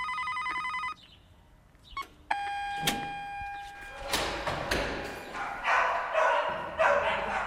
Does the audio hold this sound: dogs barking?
yes